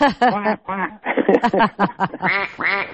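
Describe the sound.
A duck quacks over and over in quick, loud bursts, a steady run of nasal calls filling the whole few seconds with only brief gaps between them.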